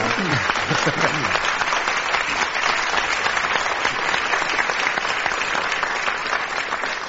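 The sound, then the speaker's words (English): Steady, loud applause from an audience welcoming a guest seated among them, a dense wash of many hands clapping without pause, with a few faint voices briefly audible near the start. “And if you clap, I think he'll stand up.”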